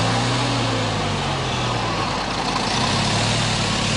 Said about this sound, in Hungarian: Hajóról teherautóra. A Csepel a Korvin köz mellől indul, és rajta egy forradalmás statiszta kíséri az utasokat.